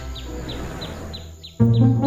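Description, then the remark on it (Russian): A bird calls with short, high chirps repeated at a steady pace, about six in two seconds, over a soft background. A louder, lower-pitched sound suddenly joins near the end. “А когда она прилетела и села на дерево,”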